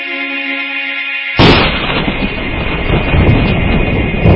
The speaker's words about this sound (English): There was thunder on the path, for the quickening brought with it storms and rainbows, sages and fools.